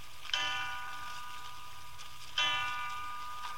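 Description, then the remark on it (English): A clock strikes three o'clock with two resonant, bell-like strokes about two seconds apart, each ringing out and slowly fading, at moderate volume amid otherwise quiet surroundings. “3 o'clock.”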